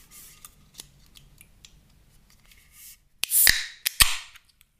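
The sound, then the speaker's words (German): Three sharp metallic taps on a can of Lemon Soda Zero, followed by a louder crack and a brief fizzing hiss as the tab opens. No one speaks. “Warte mal, ich muss mal klopfen natürlich dreimal.”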